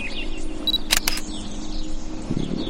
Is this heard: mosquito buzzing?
no